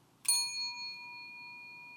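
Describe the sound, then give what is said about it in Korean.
A small bell, used in church as a signal to begin worship, is pressed once, giving a bright, clear ding that rings on with steady high tones and fades slowly over the next couple of seconds, with no voices. “그거를 알리기 위해서 여기 종이 있잖아요.”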